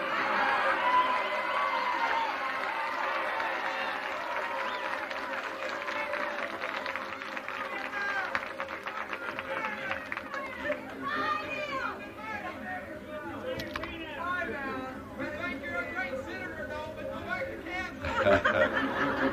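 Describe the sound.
A large crowd chatters steadily, many overlapping voices forming a dense, loud murmur, with scattered laughter and a few brief excited shouts rising above the din, swelling louder near the end.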